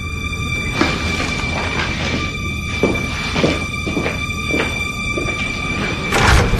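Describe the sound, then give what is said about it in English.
A door is opened against a steady background hum, ending in a louder thud or scrape near the end. No one speaks. “Open the door and see your treat.”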